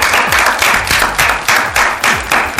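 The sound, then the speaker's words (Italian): An audience applauds loudly and continuously, the dense clapping swelling in regular pulses roughly twice a second, with no talking over it. “Applauso.”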